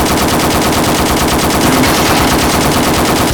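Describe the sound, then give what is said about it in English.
A loud, sustained burst of rapid automatic gunfire with armor-piercing rounds rattles on without pause, shots blurring into a dense metallic clatter, fired at the lock of a fridge. No voices are heard. “Just shoot the bloody lock.”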